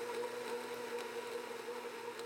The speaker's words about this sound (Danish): Langsomt forsvinder mere og mere af den nu helt sammenklappede hoppeborg ind i motoren på sportsvognen. Og nu lyder det mest som en blender, der er i gang med at hakke nogle gulerødder.